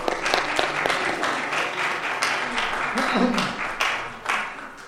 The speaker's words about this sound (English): Let's give the ladies a round of applause again.